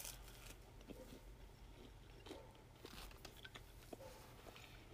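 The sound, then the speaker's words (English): Crunching as someone bites into crispy Papa John's pizza reheated in a toaster and still warm, a series of sharp crackly bites and chewing over a low steady hum, with no talking. “Like you can listen to that like crunch and it's still warm and like, oh, it's just so good.”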